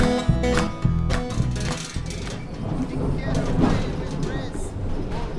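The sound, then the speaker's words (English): Steady rumble and rattle of a Yarra Trams tram in motion, heard from inside, while a voice announces over the clatter that Regent Street is the last stop. The sound is continuous throughout. “This will be the last stop. Thank you for travelling with Yarra Trams.”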